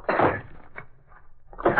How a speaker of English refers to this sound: Easy now. You'll have to force the door.